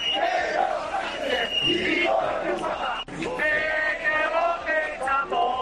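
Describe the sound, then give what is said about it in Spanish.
A large crowd of protesters at the Socialist Party regional headquarters on Calle Princesa in Murcia shouts chants against the amnesty agreement and Pedro Sánchez, such as "Pedro quiere foto, nos vende por un voto", loud and sustained, with rising and falling voices. A brief pause near the middle, then the chanting resumes with strong rhythmic emphasis. “Bueno, además hubo otros gritos más nuevos, como Pedro quiere foto, nos vende por un voto.”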